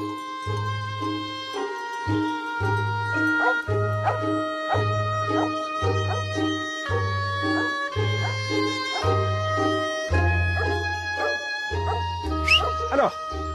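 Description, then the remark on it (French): A female dog barks and yips over and over outdoors in alpine pastures in Savoie, France, at a fairly steady pace, with sustained ringing tones carrying on behind it throughout. “Ça, c'est votre chienne, c'est Urga qui va renifler partout.”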